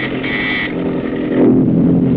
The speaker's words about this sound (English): Now the PT's motors are muffled as it tracks the enemy.